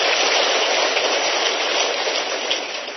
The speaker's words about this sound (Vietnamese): Một tràng pháo tay thật lớn cho anh chị em.